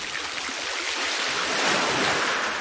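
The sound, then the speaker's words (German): Steady ocean surf washing in, a broad rushing hiss that swells slightly toward the middle as a wave breaks and rolls, with no voices present. “Stolz zeigte Lars den beiden Tigern das Meer.”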